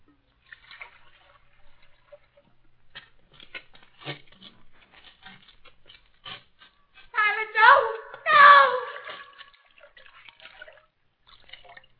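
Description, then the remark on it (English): Hands swish and splash in a basin of water, scattered soft drips and trickles throughout, interrupted midway by two loud bursts of voices before the quiet dripping resumes. “Captain, bring me a basin of water.”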